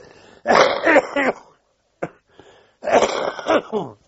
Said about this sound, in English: Sorry, I'll have to cough.